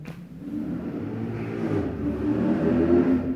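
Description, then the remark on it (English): A car engine revs and accelerates, a steady low rumble building in pitch and loudness over a few seconds, continuous with no voices. “Or drive your car really fast. For 30 meters.”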